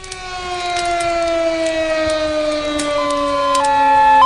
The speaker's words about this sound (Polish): Słyszeliśmy syrenę. W środku nocy może tylko sygnalizować pożar.